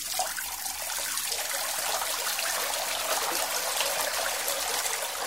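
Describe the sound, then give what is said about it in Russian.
Water that had been standing in a jug pours steadily from the jug into a watering can for watering flowers, a continuous splashing trickle lasting several seconds with no voices. “В кувшине отстаивается вода, перелейте ее в лейку и можете полить.”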